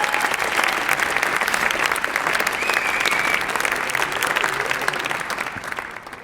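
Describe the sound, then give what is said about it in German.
Sustained audience applause fills the whole stretch, a dense, steady clatter of many hands clapping, holding loud and even before easing slightly at the very end. “Einen warmen Applaus.”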